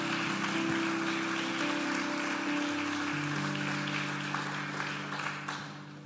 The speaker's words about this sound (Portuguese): Aplauda o Senhor porque Ele é santo. Aleluia.